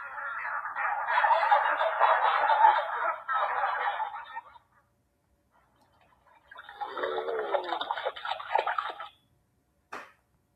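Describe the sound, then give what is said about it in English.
Kookaburras cackle in two loud, raucous bursts of chattering laughter, the first about four seconds long, then a short pause before a second rising chorus and a brief sharp click at the end. “Those were kookaburras, a bird.”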